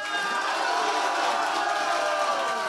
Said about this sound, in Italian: No, aspettate! È il momento del... Applauso, 3, 2, 1.